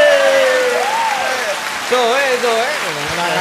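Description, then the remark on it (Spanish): A full studio audience applauds steadily and loudly for several seconds, a dense wash of clapping, while a voice whoops and calls out over it in rising and falling tones. “¡Aplaudan otra vez! ¡Aplaudan!”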